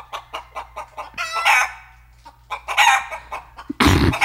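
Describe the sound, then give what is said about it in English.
A sound effect of hens clucking in a quick, rhythmic series of short pulses, broken by longer harmonic rooster crows, ending in a loud, rough burst, all clear with no talking. “Don't chicken me. You stop that. It's a really long sound effect, and I don't know how to make them stop once I start them.”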